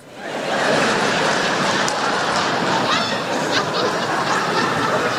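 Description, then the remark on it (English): A thin, half-hearted round of audience applause: scattered clapping that starts quickly and holds at a steady, modest level for about five seconds, with no one speaking over it. “That was the saddest attempt at applause I've ever fucking heard.”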